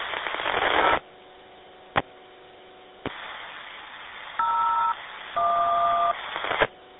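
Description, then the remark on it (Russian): Two distinct telephone keypad tones, each lasting well under a second, sound over a faint line hiss, preceded by a burst of static and a few sharp clicks. “Интернет буксует, сейчас я телефон позову вас.”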